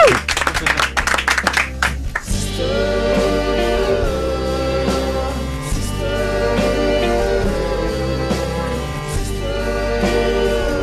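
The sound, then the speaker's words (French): A short burst of audience applause for a show's guests at the end of their appearance, a dense patter of many hands for about two seconds, cuts off as loud music with a steady bass line starts and fills the rest. “Merci, applaudissez-vous, vous le méritez.”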